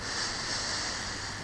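A long, steady inhale drawn in through the nose during a guided breathing exercise, breathy, holding an even airy hiss for over a second with no talking.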